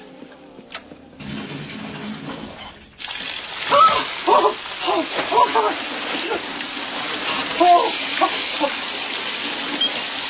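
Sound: shower water running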